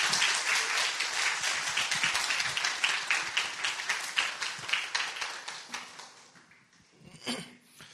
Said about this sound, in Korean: 이 시간 우리 오늘 부흥사로 강사 모시겠습니다. 여러분 큰 박수로 환영하겠습니다.